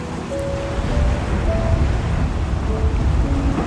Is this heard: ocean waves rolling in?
yes